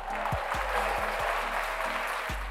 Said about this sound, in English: I'm excited. Let's give ourselves a round of applause first.